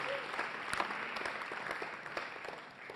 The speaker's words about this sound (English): Can anybody give Jesus a clap for me?